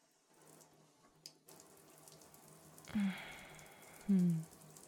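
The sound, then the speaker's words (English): Shower water starts running partway through with a steady, hissing spray, joined by a couple of brief low vocal sounds like sighs or hums. “I can reach the handle fine, but do you think you can angle the shower head?”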